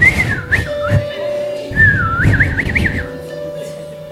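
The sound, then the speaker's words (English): Someone whistles two short warbling phrases with sliding pitch, as if whistling at girls, clear over a low rumbling background noise. No one speaks. “Instead of busy whistling for girls.”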